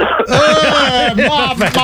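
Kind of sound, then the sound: human body sound, cough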